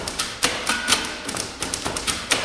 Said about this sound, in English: We've had to find a sound and sets of rhythms that play well on a typewriter. It really appeals to me that you've got this, intricate little machine with all these moving parts on the inside that's completely useless these days.